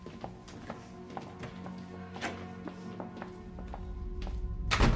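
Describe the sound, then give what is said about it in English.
Several soft footsteps cross a room at an even pace as a woman walks to the front door, then the front door closes with a solid thunk as she lets herself out. A low hum underneath and no voices. “walks to the front door, and lets herself out.”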